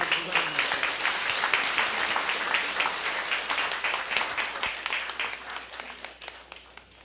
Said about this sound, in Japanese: それじゃあ、館長さん来ましたんで、皆さん拍手でどうぞ。